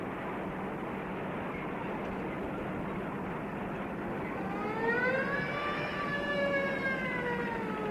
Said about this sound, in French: Il a à peine fait quelques mètres que Pierre entend les sirènes retentir. Ça doit être pour lui.